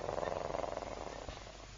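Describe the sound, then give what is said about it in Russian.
A cat purrs in a steady, rapid flutter of low rumbling pulses, fairly loud at first and easing slightly softer toward the end, with no talking. “Мяу! Котик!”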